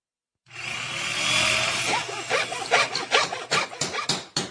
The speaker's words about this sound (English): What's all the hammering for? Oh, that's right. It's our series Nuts and Bolts.